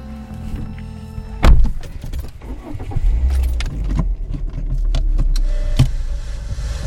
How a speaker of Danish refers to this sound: han er på vej nordpå i en lejet bil med sin lydoptager og en hel masse spørgsmål.